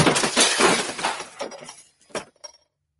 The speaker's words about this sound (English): Why do you suppose I just hurled a keyboard at your head, GPT?